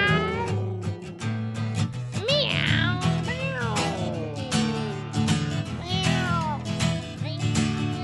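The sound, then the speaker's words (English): Voices imitate a cat's meow several times, drawn-out rising and falling cries sung over steady, loud backing music with a sustained beat. “She's a high wire walker with a magical cat who goes meow, humbug. Give me the humbug. Who wants to do the meow? Give me the meow.”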